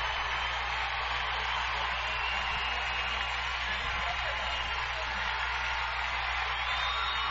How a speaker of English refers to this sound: The crowd goes wild. Nino throws the pass. Had a receiver open.